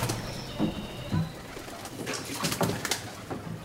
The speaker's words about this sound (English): And every channel has a different sound. There are some channels you have a lot of birds singing.